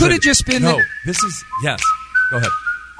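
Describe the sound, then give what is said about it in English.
A whistled TV show theme song carries a bright, steady melody with sustained notes that step between pitches, while a man speaks in short bursts over it throughout. “The theme song to the Andy Griffith Show is one of the most pleasant whistling tunes of all time.”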